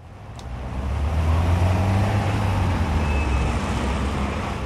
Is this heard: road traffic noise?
yes